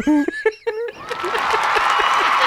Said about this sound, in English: Now, every fucking time the crowd goes wild.